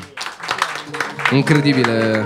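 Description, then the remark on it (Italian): Audience applause as a band's pianist is introduced at a live show: a dense patter of clapping runs throughout, with shouts and cheering voices rising over it in the second half. “Evviva, applausi!”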